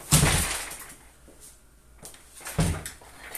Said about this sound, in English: Did you just kick the chair?